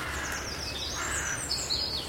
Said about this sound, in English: There's a crow there as well. Crow sings generally four.